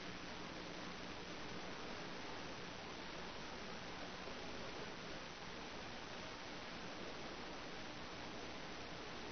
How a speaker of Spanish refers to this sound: El enemigo está aumentando la interferencia.